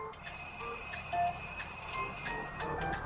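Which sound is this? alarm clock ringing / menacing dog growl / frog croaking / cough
alarm clock ringing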